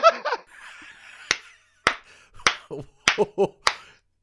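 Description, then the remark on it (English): A slow clap: five sharp, crisp claps spaced evenly about half a second apart, with brief laughter and voiced chatter between them and a short vocal burst at the start. “The slow clap.”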